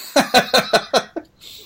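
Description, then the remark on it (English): A quick, rhythmic run of six raspy, voiced coughs, fairly loud, weakening toward the end and followed by a brief breathy hiss. “Wankiest cough sounds like a Star Wars villain.”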